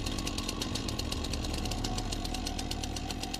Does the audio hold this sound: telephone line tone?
no